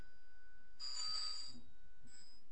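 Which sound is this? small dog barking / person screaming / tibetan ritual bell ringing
tibetan ritual bell ringing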